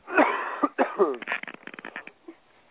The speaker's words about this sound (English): Cough it out. That's right. Cough it out.